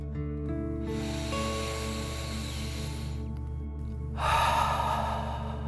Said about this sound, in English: Last one, fill up your chest and belly. Deep breath in and out.